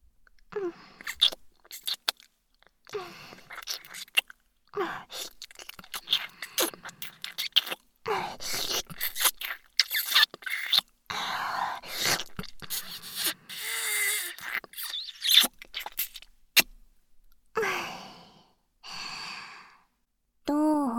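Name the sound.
wet kissing sounds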